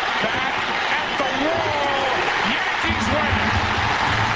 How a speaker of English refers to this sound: The Fox TV cameras soaked up the scene, cutting from Soriano rounding the bases with arms raised to the delirious crowd at Yankee Stadium